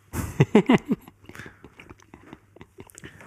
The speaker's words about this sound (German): Bevor ich jetzt hier noch weiter schmatze, genau.